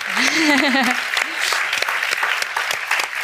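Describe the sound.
An audience claps in a steady, dense burst of applause. Over the opening second a voice calls out or cheers with a rising and falling pitch.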